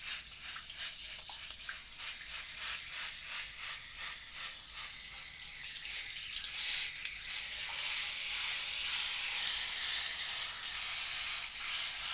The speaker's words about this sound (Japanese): 暑すぎたりしませんか？逆に冷たすぎたりとかありましたら言ってくださいね。シャワーも気持ちいいですよね。